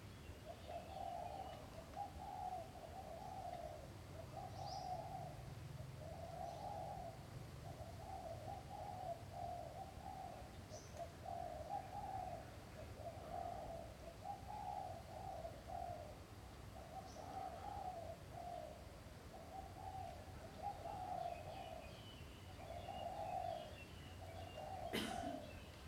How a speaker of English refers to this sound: And even sound is feeling. Your eardrum is vibrating and making contact with the sound of the birds and the creatures outside of the building. You're feeling that. Hearing is feeling.